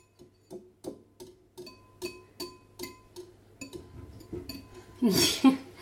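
A girl beats egg in a bowl, mixing the yolk and whites together: a utensil clinks against the bowl in a steady rhythm, about two taps a second, ending in a louder, rougher scraping burst.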